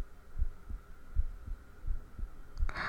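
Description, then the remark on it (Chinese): Muffled, low human heartbeat thumps in a steady lub-dub rhythm, about four pairs, heard through the chest over a faint constant hum, ending with a brief rustling scrape. “什么叫现在听我的心跳比那时候声音要小了？”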